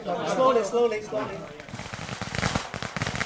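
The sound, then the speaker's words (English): A voice speaks briefly, then a long string of firecrackers bursts into rapid, dense crackling pops that continue steadily and loudly, filling the rest of the moment, as a man visits his family's graves with about 40 members of his extended family. “Amid fireworks, he visits the family graves with 40-odd members of his extended family.”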